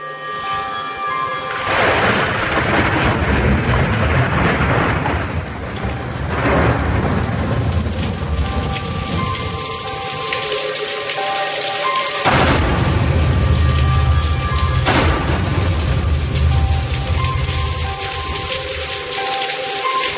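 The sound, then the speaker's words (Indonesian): Steady, loud heavy downpour hisses throughout at a university campus in Jatinangor, with deep rolls of thunder rumbling underneath and swelling in a few heavy waves. No voices, just the storm, continuous. “Namun saat itu turun hujan deras.”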